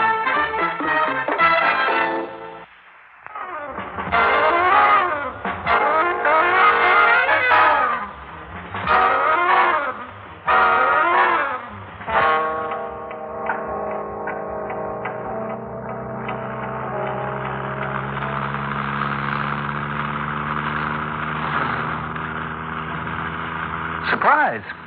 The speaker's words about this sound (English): I think there's a car behind us. Men? Hey, men. Hmm? There's a car behind us.